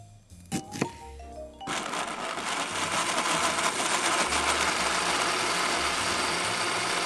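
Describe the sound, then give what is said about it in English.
A blender starts after a few brief clicks and knocks, then runs steadily with a loud, dense whirring roar as it purees two or three sliced white peaches, continuing without a break to the end. “Slice up the peaches and puree them in a blender.”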